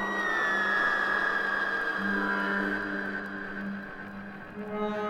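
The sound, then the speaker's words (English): Wind whistles steadily and loudly around house corners, high tones sliding slowly downward over a low, droning hum that wavers on and off, with no voices. “The wind whistles around the corners of the house.”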